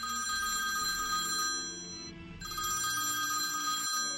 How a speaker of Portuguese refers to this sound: Toca o telefone.